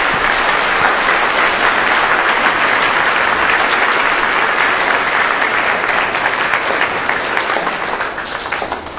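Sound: audience applauding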